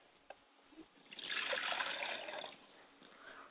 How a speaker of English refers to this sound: I like to pour libation to my Father's Spirit and say Ashe. Ashe. I like to pour libation to my Mother's Spirit and say Ashe. Ashe.